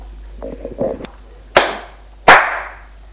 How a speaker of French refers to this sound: Réponds. Il la gifle.